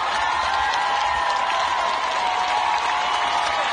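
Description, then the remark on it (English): A large crowd in New Zealand cheers and applauds steadily in support of a performer, a dense wash of clapping and voices at constant loudness throughout, with no gaps or individual speech standing out. “Cheers of support from a crowd in New Zealand.”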